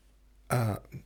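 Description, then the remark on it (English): A single abrupt, voiced hiccup, loud against a quiet background, followed by a faint small catch of breath. “sorry, I got hiccups.”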